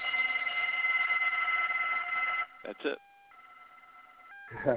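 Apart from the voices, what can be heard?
tibetan bell ringing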